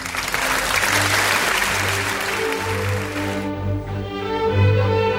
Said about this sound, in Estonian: Daamid ja härrad, Eesti kontserdi saade... Aplaus!